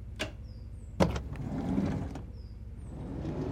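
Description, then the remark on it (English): A couple of sharp mechanical clunks, like car door locks popping open, followed by a brief whirring motor sound over steady low engine rumble inside a vehicle. “Unlock the doors.”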